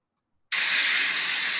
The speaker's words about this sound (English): One more thing before I get in the shower. You probably can't even hear this because the shower's on. I can't be able to turn it off again.